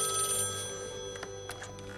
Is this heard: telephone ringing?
yes